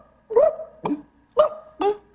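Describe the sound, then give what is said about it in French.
A person imitates a hungry, thirsty Kabyle dog that has not eaten for a long time, with four short, strained yelping barks, fairly loud, in an uneven rhythm with brief pauses and no talking. “Faudra un son de chien kabyle, tu vois. Un son. Tiens, un chien qui a pas mangé depuis longtemps, un chien qui a soif.”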